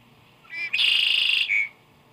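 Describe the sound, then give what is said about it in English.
A red-winged blackbird sings once: a couple of short, gurgling opening notes lead into a loud, buzzy, high-pitched trill lasting under a second, then a brief closing note. No voices are heard. “The red-winged blackbird, for instance, puts us in mind of the steamy, malodorous wetland, the nearest thing in nature to the factories of man, where sound and fury are so great that they ooze life.”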